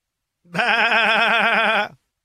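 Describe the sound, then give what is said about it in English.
A single loud, wavering goat bleat lasting over a second, with a quavering vibrato throughout, with no talking over it. “Is that what a goat or is that a sheep? I think that works for a goat.”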